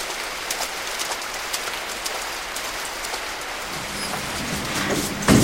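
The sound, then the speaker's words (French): Steady rain hisses throughout, with sharper individual drops pattering on a surface. Partway through, a low rumbling hum joins beneath it, and a brief louder splash comes at the very end. “Quel temps de merde.”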